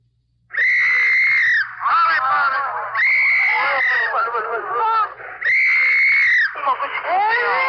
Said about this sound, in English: Your ear is tuned to Korea and the fall of a city, to the dissonant sounds of an MP's whistle and sobbing infants. As heavy trucks and tanks thunder across a bridge going south out of Seoul.